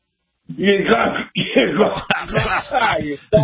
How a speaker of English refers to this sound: That sounds more like a cough than a thought, but, you know, go ahead.